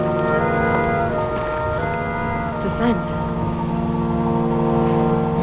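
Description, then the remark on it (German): Shimmering film noir score music of layered, sustained tones that hold steady and loud throughout, with a faint wavering, vibrating quality and brief higher glints near the middle. “Da hören wir diese vibrierende, flirrende Musik.”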